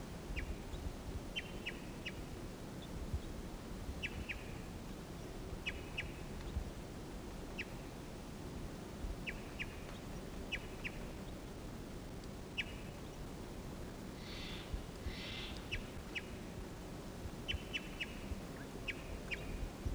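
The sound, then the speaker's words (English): A wild male bird sings in short, repeated high chirping phrases at irregular intervals over a steady low rumble of background noise, with no voices. “Here's a wild bird. Wild male singing here.”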